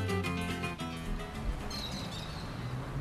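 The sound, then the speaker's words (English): Birds chirp and call over a steady urban hum in Sao Paulo, Brazil, with a few short, high twittering notes standing out briefly against the constant background noise of the city. “It may be a sprawling and industrial city, but wherever you are in Sao Paulo, Brazil, you can't escape the sound of birds.”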